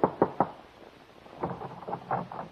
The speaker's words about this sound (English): Your hand trembles as you knock on the door.